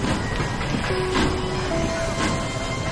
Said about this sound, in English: The train begins to move.